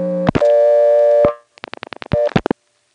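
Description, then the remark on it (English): A rapid run of about seven sharp telephone-exchange switching clicks from dialing a 6, sandwiched between loud, steady buzzing line tones that start and stop abruptly, with a few more clicks at the end. “But it's a series of clicks that I've never heard anywhere else.”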